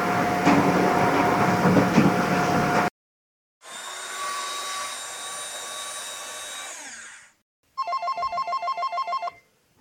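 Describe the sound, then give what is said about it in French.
A heavily used office landline telephone rings with a fast, trilling electronic burst of about two seconds, fairly loud, after two stretches of steady whirring from office machines, a photocopier and a shredder. “Maintenant, je vais vous laisser écouter trois bruits pris sur le lieu de stage, c'est-à-dire une photocopieuse, une broyeuse et un téléphone fixe qui sont très utilisés dans le travail de bureau et qui étaient utilisés sans arrêt pendant mon stage.”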